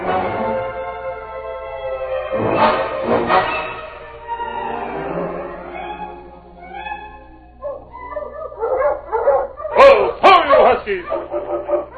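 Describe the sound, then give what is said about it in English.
A dog named King gives a series of barks and yelps mixed with drawn-out whining, with a loud burst of sharp barking near the end, clear. “Listen, that sounds like King now.”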